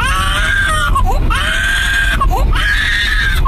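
A baby screams and cries loudly in a car in three long, piercing wails separated by short gasping breaths, with a steady low rumble of the moving car underneath.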